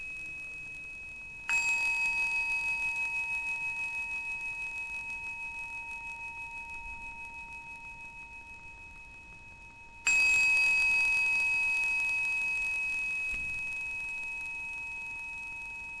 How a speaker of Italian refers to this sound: Ascoltiamo insieme i tre suoni di campana che aprono la meditazione dei sassolini, accompagnandoli con la consapevolezza del respiro.